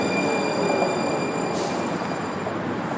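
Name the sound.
train arriving at platform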